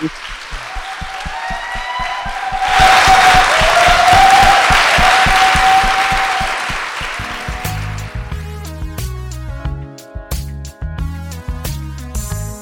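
An audience claps in a steady rhythm, then bursts into loud, sustained applause with high whooping cheers, which fades as a musical outro starts.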